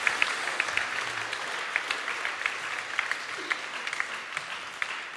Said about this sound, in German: Aber dafür können wir auch Gott einen Applaus geben.